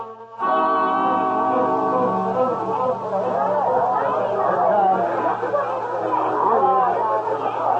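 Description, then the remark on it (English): A steady murmur of crowd chatter at a train station, many overlapping voices blending into a continuous babble, with a low hum underneath throughout. “Find them later and talk to them, but not in a crowd like this.”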